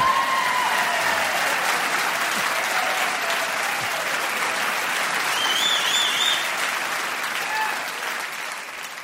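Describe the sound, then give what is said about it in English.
Sustained audience applause for a guest's Restoration-period bow, a dense, steady wash of many hands clapping for about nine seconds, with faint whistles rising above it, easing slightly toward the end. “Let's have the applause again, and go!”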